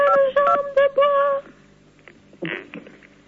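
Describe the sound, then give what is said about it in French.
Four quick beeps from a phone keypad, pressed by someone on the line during a live call-in broadcast, ring out in a row, clear and fairly loud, followed by quieter background noise and a brief murmur of voice. “Alors, donc la question, merci pour celui qui s'amuse avec sa touche de... téléphone.”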